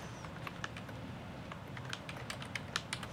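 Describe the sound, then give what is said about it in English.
Rapid, irregular keystrokes clatter on a computer keyboard the typist is not used to, a quick run of light clicks over a low background hum, with no one speaking. “Always messes you up a little bit when you get on a keyboard that you're not quite used to.”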